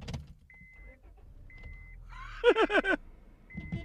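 A car horn sounds from inside the car in a loud burst of four quick, blaring honks, with a high steady chime beeping on and off before and after over a low engine hum.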